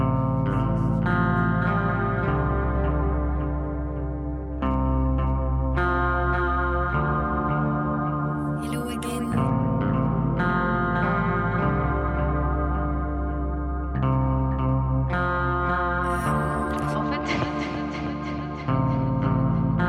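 Loud electric guitar soaked in echo and reverb, its sustained chords ringing and shifting every few seconds into a dense, washy wall of sound, with no voices.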